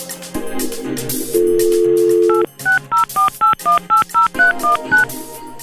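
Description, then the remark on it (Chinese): A steady telephone dial tone gives way to a quick, evenly spaced run of about ten keypad dialing beeps, clear, with a faint music bed underneath, as a phone call is placed and connects. “嗱，我哋而家咧就系接通紧啊，今届嘅男神啊”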